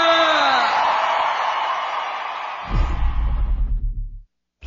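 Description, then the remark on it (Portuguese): A loud crowd roars and cheers with whoops. The noise fades after a few seconds as a pulsing, booming bass beat takes over, then everything cuts out abruptly. “Eu quero um barulho bem alto”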